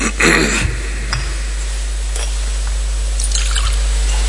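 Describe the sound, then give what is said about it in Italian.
A short trickle of water poured into wine in a chalice, followed by a few faint drips and light clinks against a steady low hum. “L'acqua unita al vino sia il segno dell'unione per la vita divina di Cristo.”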